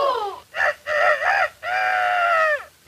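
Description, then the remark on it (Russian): A person's voice imitates a rooster crowing, a loud cock-a-doodle-doo in several bursts ending in a long drawn-out final note, with no other talking. “Как что-то запоет. Кукареку!”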